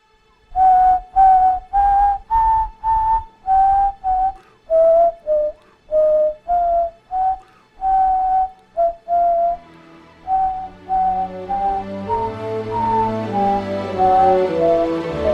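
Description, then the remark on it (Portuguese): A person whistles a stately classical melody, Beethoven's Ninth Symphony, note by note in a steady rhythm, clear; toward the end, fuller instrumental music swells in beneath the whistled tune. “Eu não sou muito bom nessas coisas de assobiar, hein?”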